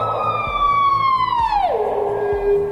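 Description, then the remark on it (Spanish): A small bird gives a loud, drawn-out shrill shriek that holds steady, then slides down in pitch near the end, with a low rhythmic thumping beat underneath. “Pero este chillido, para que sepáis que se llama, el que lanza este bicho, es un pajarillo realmente.”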